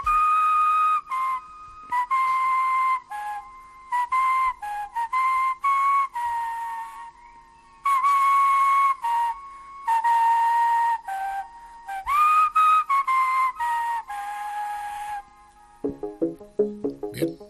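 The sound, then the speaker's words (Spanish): A man, known for his way of whistling, whistles a melodic tune in clear, bright phrases separated by short pauses, loud for about fifteen seconds before it stops and a different brief sound follows. “… es famoso por su manera de silbar.”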